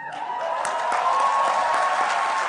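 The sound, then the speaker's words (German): Steady, dense applause from the negotiators of the UN member states as the diplomat from Singapore finishes speaking, late at night, at the end of a marathon closing session. A continuous wash of many hands clapping at once with no voices standing out, holding an even, fairly loud level throughout. “Das Schiff habe das Ufer erreicht, sagte die Diplomatin aus Singapur unter dem Beifall der Unterhändler der UN-Mitgliedstaaten.”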